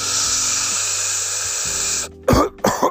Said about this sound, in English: Excuse me, I just had to cough.